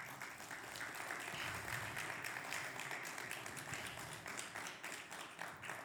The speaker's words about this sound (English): So I want you to give a big, big round of applause to my friend